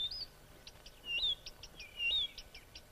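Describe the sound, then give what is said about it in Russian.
Birds sing in bright, high chirps and whistled phrases, with short repeated notes between longer sweeping calls, over a quiet low background hum; no one speaks. “Птицы запели.”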